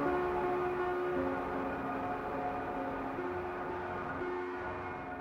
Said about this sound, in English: His thoughts shaking the ground open, the train departs with a deafening hiss.